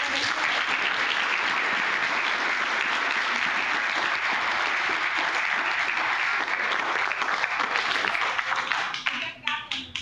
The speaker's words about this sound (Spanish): Los estudiantes quieren darle un aplauso, pero de pie, en manera de respeto, de agradecimiento.